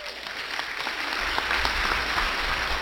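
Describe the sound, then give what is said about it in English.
A crowd applauds a couple married 65 years, the dense patter of many hands forming a continuous wash of applause at an even, moderately loud level, with no voices rising above it. “Because that's worthy of applause.”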